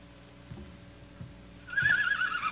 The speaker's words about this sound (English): What's the matter? Sick horse? No, the horse is fine.